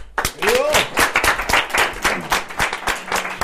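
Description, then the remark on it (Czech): An audience breaks into applause to welcome a drummer and another musician, many hands clapping in a dense, steady patter with a few louder claps standing out, and voices calling out faintly over it. “Takže myslím si, že prožijeme hezký večer a mohli bychom přivítat potleskem.”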